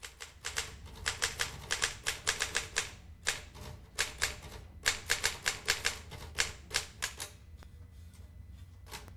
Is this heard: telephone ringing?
no